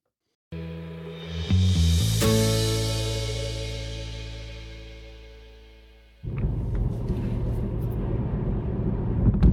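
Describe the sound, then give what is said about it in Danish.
Engine noise from inside a moving car: a steady droning hum that revs and shifts early on, fades slightly, then gives way to a louder, rougher rumble of road noise that continues to the end. “Jeg skal lige beklage, at lyden i de første minutter fra bilen ikke er den bedste, men det bliver bedre.”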